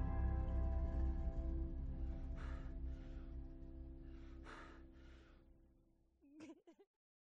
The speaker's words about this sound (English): I loved hearing the gasp when the initial explosion happened. That really got some of you guys.